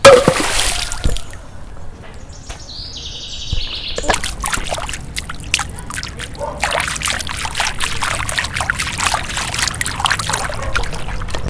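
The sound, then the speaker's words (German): Water splashes and churns in a steady, repeated rhythm as people swim across the water to the other bank, after a quieter opening with a faint chirp in the background. No voices. “Schnell ins Wasser.”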